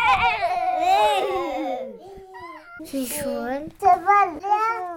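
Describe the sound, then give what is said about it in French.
A young child's voice imitates a horse neighing: a high, quavering whinny that wobbles and falls in pitch, followed by a few shorter squeals and bursts, fairly loud. “C'est le cheval.”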